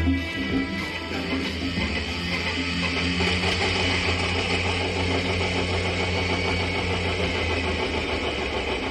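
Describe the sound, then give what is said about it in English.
A diesel tractor engine runs steadily and loudly, its deep rumble holding an even, throbbing idle with a continuous mechanical clatter throughout, no voices present. “Oh, yes, the sound of diesel, and it is Tractor War Friday here on Illinois Public Media”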